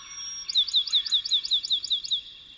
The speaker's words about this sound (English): And uplifting singers such as pinewood sparrows enliven the forest during the day.